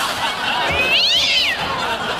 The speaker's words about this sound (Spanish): Para la Maquita que me pide un gatito. Hazte un miau. Hazme un miau, miau, miau.